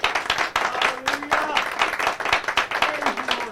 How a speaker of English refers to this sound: Let's just give the Lord a round of applause this morning. Thank him for what he's done for us.